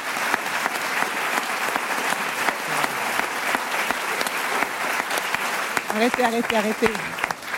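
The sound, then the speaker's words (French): Sustained applause from a large audience honoring a woman who is leaving, dense clapping that fills the whole stretch at an even, loud level, with a voice briefly audible over it near the end. “merci beaucoup de vos applaudissements”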